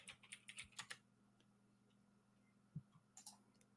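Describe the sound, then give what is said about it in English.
Rapid keyboard typing, a quick burst of crisp clicky keystrokes, then a pause with a single thock and a few more scattered key taps, over a faint steady hum. “Leave your keyboard on that setting, please. I love it.”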